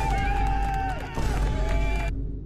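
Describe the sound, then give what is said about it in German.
An applause sound effect is played: a loud burst of crowd applause and cheering with high whistles running through it, a dense steady roar that cuts off abruptly near the end. “Vielleicht habe ich hier sogar meinen Applaus parat.”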